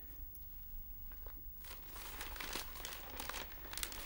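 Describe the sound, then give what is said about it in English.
Paper rustles and crinkles, starting quietly and growing busier after a second and a half into a steady run of crisp crackles and crumpling handling noises. “would you mind putting the paper down?”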